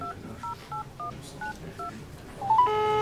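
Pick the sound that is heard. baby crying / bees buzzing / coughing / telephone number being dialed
telephone number being dialed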